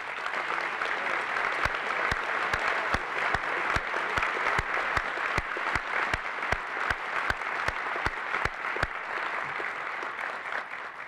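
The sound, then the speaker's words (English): Sustained applause from an audience at a meeting, given for a man standing to be recognized: a dense wash of clapping that holds steady for about eleven seconds, with a few sharper individual claps standing out at a quick, fairly regular pace. “and we can then give him a round of applause, please.”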